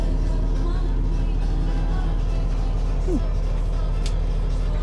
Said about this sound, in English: Okay, right, well, we'll continue to the next stop on the public bus, which is making me laugh because it has words woven into the design of the seats, which says friendly and smile.